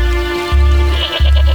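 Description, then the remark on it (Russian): A goat bleats loudly in one long, wavering cry that breaks briefly before trembling on. No one speaks. “Да козу, блядь, подои.”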